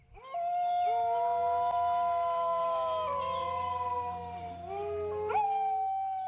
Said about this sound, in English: Dingoes are descended from South Asian wolves. They rarely bark but tend to howl.